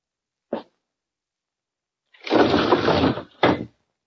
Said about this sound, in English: Anything else you wanted me besides opening this window, Uncle?